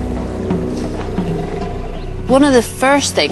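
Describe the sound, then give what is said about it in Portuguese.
Elephants giving deep, resonant rumbles that drone low for a couple of seconds, then two louder rumbling calls that swell and fall back, with no talking. “São chamados de bramidos.”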